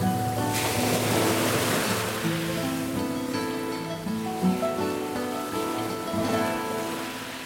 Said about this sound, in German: Selbst ein Blinder hätte hier seine Freude, auch bei dem Rauschen des Meeres.